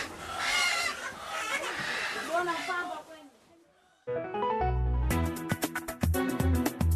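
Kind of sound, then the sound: animal, chickens clucking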